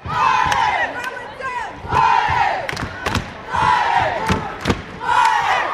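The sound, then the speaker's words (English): The Crow rooting section at a high school basketball tournament in Laurel, Montana, where the Plenty Coup Warriors play Fromberg High, lets out repeated high, wavering war cries at a Crow basket in loud surging waves, about four bursts, with sharp thuds and claps punctuating the crowd's roar. “In the Crow rooting section, emotions run high. War cries erupt at every Crow basket,”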